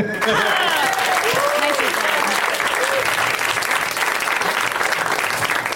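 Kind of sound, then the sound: crowd, audience applause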